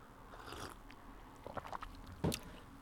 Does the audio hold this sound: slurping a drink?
yes